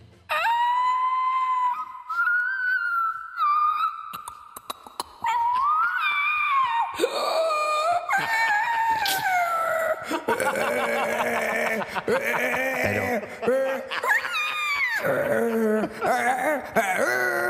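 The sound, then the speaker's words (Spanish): A person imitates a whale with long, loud moaning wails that slide up and down in pitch, sustained throughout and turning into wavering, warbling cries toward the end. “No tengo ni idea de qué ballena ni qué propuesta escénico festival.”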